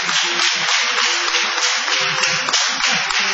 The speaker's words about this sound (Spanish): Vamos a aprovechar el aplauso y el entusiasmo para saludar también